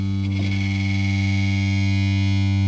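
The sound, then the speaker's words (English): A dish buzzes and rattles against a desk, set vibrating by the lowest note being played, a sustained, loud low note. The gritty, steady vibration holds for a few seconds and swells slightly toward the end, carrying through the desk to a can of nuts and bolts on the table. “In fact, when I play the lowest note, there's actually a buzzing coming from a different part of the room over here.”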